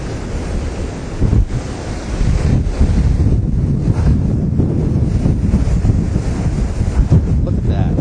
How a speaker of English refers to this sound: It's very windy. Oh, wow, look at that. Okay, look, there's the person. Look at the size of those waves. Oh, actually, there's the person. Okay. Look at the beach is being washed away. This is a nor'easter.